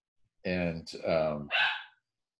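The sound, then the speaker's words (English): Dogs bark in three quick, loud, tonal bursts, one right after another, over about two seconds, in the morning, with no talking. “And I'm sorry, my dogs are so distracting this morning. This is gonna be really challenging if I can't get them to shut up.”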